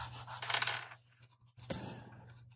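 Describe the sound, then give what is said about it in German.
Dice are rolled again to replace eggplant and chili in a cooking game. They rattle and clatter across a hard surface in a short tumbling burst, then a sharper knock and a second brief clatter as they settle, with a low steady hum underneath. “Ich würde die Aubergine und die Chili jetzt nochmal würfeln, weil wir das eben schon hatten.”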